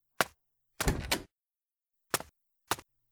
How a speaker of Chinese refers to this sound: 怎么才开门啊？我都敲了。